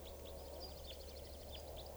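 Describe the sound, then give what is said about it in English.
Juvenile type 4 red crossbill calls: faint, high chip notes repeated irregularly, with a rapid thin twittering run in between, over a low steady background hum. “Recording now, it sounds like a bird is crossbill sawing here. I think it's a type 4 juvenile.”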